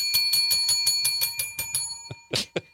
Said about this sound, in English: I'm just trying to make her feel like there's a lot of bells around.